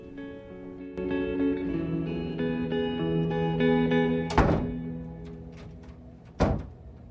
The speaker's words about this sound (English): He closes the door at the rear of his dressing room in Melbourne.